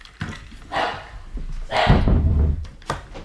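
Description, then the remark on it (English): Several sharp, loud dog barks burst out in an irregular series, with a longer rough, growly bark in the middle and no talking. “The dogs are barking.”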